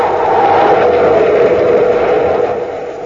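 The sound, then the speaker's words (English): A spaceship engine roars steadily as it comes in to land on top of a bluff, a loud, dense rumbling drone with a humming midrange that holds for a few seconds and then eases off slightly at the end. “It's a ship. Coming in for a landing on top of the bluff.”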